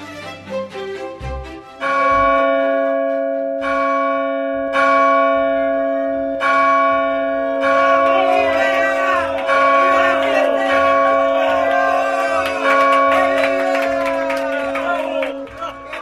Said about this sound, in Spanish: El repique de todas las campanas despertó a los parisienses desde el amanecer del 6 de enero